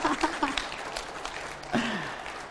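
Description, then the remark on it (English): A short burst of audience applause for a team member, a dense wash of clapping at steady moderate loudness, with a brief voice rising over it partway through. “I like giving her a round of applause.”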